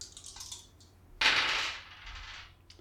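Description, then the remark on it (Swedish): Two dice are rerolled during a game, with a few light clicks followed by a sharp rattling clatter that quickly dies away. Nobody speaks. “Så då kastar jag väl om 2 tärningar.”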